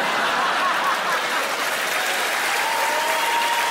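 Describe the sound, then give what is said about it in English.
A steady, dense wash of audience applause in Glasgow, many hands clapping continuously at a fairly loud, even level for the whole stretch, with no voices standing out. “There's a lot of people applauded that have never paid any tax in their fucking lives.”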